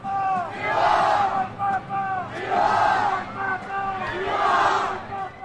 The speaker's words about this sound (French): Ils confluent tous vers l'avenue Pie XII où se situe l'Annonciature. Le soleil fait son apparition et les chants et les clameurs montent.